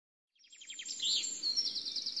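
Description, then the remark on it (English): A big bird calls alone, a quick run of high, descending chirps that blends into a steady, rapid trill. It sounds clear, with no one talking. “No, it isn't. It's a bird. It's a big bird.”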